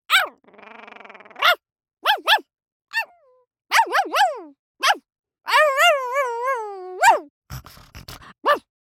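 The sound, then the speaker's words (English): A voice imitates a dog barking: a low buzzy growl, then short sharp yips in uneven bursts, a long wavering whine midway, and a few more barks at the end. “Dogs.”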